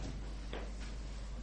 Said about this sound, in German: Ich muss mal einen Stuhl wegstellen.